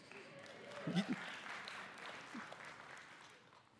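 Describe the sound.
A crowd claps and cheers together, a steady wash of applause with a louder burst of voices near the start, then gradually tapering off.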